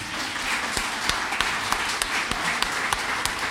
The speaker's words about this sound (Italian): Grazie. Io direi un applauso ci vuole.